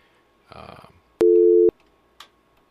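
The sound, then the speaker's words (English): A loud, steady telephone dial tone on a radio call-in line hums for about half a second, bracketed by sharp clicks, following a brief muffled burst of voice-like noise and then quiet line hiss. “Nope, just got a dial tone.”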